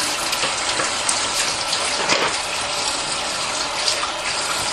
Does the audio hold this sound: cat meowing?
no